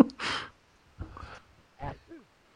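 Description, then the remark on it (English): A single sharp, breathy sneeze bursts out, followed by a couple of softer sniffs or exhales and a brief voiced sound. “Ooh, I had sneezed there.”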